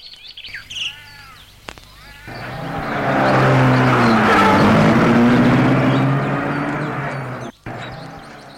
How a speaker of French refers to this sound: Ils vont vers la voiture, entrent dans la voiture. Et le chauffeur met la voiture en marche.